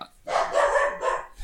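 animal, dog barking

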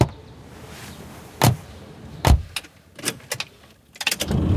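vehicle, car engine starting

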